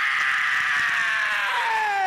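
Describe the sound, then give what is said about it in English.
A rock singer's loud, raspy scream held for about two seconds, strained and high, its pitch sliding downward toward the end. No talking accompanies it. “It's one of the greatest screams in all rock and roll.”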